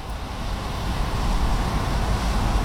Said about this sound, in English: That's dry leaves rustling, that. Tugging at the branches. Autumn is upon us, everybody.